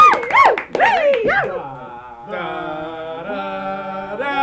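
A voice mimics a dog howling, with loud wavering, rising and falling wails for about two seconds, then steady sustained musical tones carry on underneath.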